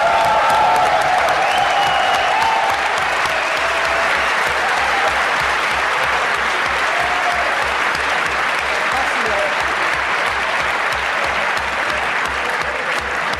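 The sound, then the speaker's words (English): A large audience applauds a contest winner loudly and steadily for over ten seconds, with a few cheers near the start and a regular low thumping beat running underneath. “A good applause”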